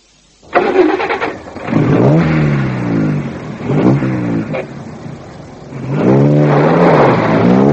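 A car engine turns over and catches, then revs loudly in repeated surges, its pitch climbing and dropping three times before holding a high, steady roar. No one speaks.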